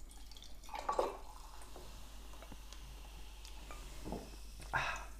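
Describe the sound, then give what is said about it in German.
Thomas Henry tonic water pours into a glass over an ice cube in short gurgling bursts, with faint drips and a soft fizzing hiss between the splashes. No one speaks. “schenkt das Thomas Henry Tonic Water ein und ich schaue meinem Eiswürfel zu, wie er darin schwimmt und finde da totale Begeisterung.”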